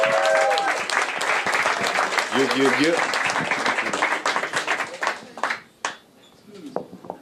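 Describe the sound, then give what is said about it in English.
A crowd bursts into sustained applause for the interpreters, dense clapping with scattered cheers and a few whoops, then gradually thins out into isolated claps near the end. “Can we get a huge round of applause for our interpreters who have been doing such amazing work, man?”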